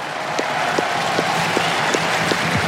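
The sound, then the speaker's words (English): A large tennis stadium crowd applauds Juan Carlos Ferrero, coach of Carlos Alcaraz, who won the title there 20 years ago, as Fabrice Santoro asks for an ovation. Carlos Alcaraz also applauds. A dense, steady wash of clapping with a faint rhythmic beat, as if some of the crowd claps in unison. “Fabrice Santoro just asking the crowd to applaud Juan Carlos Ferrero, coach of Carlos Alcaraz, who won this title 20 years ago.”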